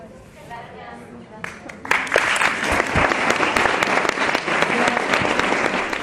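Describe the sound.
Applause from a theatre audience after a performance, for a spectator overcome with emotion, swells after a quieter opening with a few voices, becoming a dense, steady wash of many hands clapping for several seconds.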